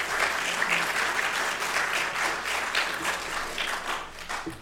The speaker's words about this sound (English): Beautiful singing, amen. Y'all give them another round of applause.